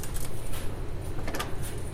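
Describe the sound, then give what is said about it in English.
A door being locked: a few sharp mechanical clicks and rattles from the latch over a steady low rumble of background noise, with no talking. “And I am going to make sure this door locks.”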